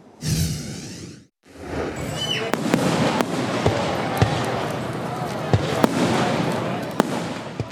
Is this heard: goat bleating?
no